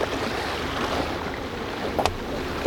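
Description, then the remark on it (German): A motorboat engine runs low and steady on open water as it is throttled down at the exit of a bay, its drone mixed with wind and the wash of waves, with a brief splash near the end. No one speaks. “Die beiden versperren mit unserem Boot den Ausgang der Bucht. Motor drosseln!”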